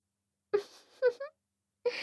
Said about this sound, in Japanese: あくび。